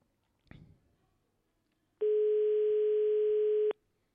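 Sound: telephone ringing tone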